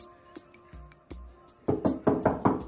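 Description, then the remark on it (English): A bed being kicked: a few soft, dull thumps, then a quicker run of four or five louder, heavier bangs against it, with no voices. “Camille kicks her bed.”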